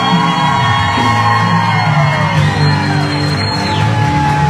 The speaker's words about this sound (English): So I want you to please welcome with a great hand clap offering my friend